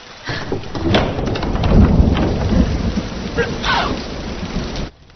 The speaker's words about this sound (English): Though I don't think, Mama, you can reasonably take credit for making it rain.